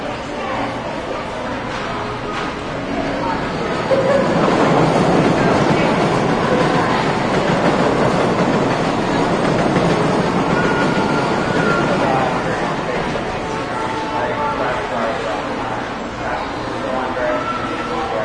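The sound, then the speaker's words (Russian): A metro train rumbles steadily through a station with yellow granite walls and black wrought-iron lamps, a loud, sustained roar that swells midway and holds for the whole stretch, with indistinct crowd murmur blended beneath. “Лениво двигающаяся публика и редкие поезда.”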